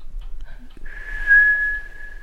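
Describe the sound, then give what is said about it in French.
A person whistles one steady, high, sustained note lasting about a second and a half, imitating the whistling sniff a bear makes in the forest when it scents humans. It is clear, with faint low background noise and no talking. “un sifflement quand l'ours veut sentir que ah il y a les humaines quelque part.”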